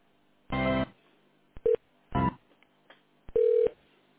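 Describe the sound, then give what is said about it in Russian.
Electronic telephone line tones while a call is transferred to Rostelecom: several short buzzy bursts and steady beeps alternate with brief pauses, clear, with no one speaking. “Сейчас соединяю вас. Оставайтесь на линии, пожалуйста.”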